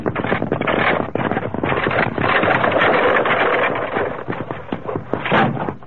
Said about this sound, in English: Evidently a runaway wagon wheel. Steady, Silver. Must have rolled off the main trail up above us.